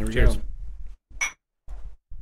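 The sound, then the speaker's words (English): A single bright glass clink rings out briefly as two glasses of beer are tapped together in a toast, following a stretch of talking, with muffled movement afterward. “Cheers. You got to cheers me or it's bad luck.”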